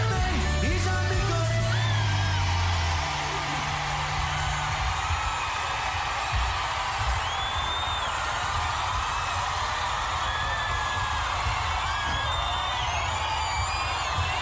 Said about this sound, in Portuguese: Vocês estão vaiando eles por quê? Vocês nem vão dar conta de cantar mais alto que eles? Ou sim?